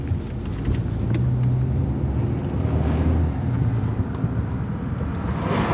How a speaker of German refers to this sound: Langsam fährt das Auto an das schwere, gelbe, metallene Tor heran.